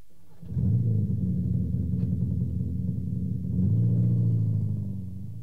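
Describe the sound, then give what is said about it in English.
A car engine starts up and runs with a steady, low rumble, then its pitch and loudness rise partway through as it revs or pulls away. No one speaks. “A car.”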